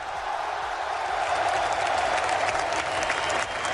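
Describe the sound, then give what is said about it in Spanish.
More than 30,000 fans at the Camp Nou stadium give a sustained ovation for Xavi Hernández at his presentation as new Barça coach, dense applause and cheering roaring steadily throughout, loud and wide like thousands of people clapping at once. “Bueno, era la ovación que arrancaba Xavi Hernández de esa afición que estaba en el estadio del Camp Nou.”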